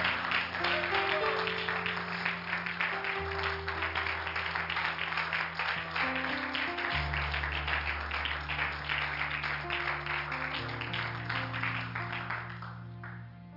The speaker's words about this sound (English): Come on, let's give the Lord a hand clap of praise this morning.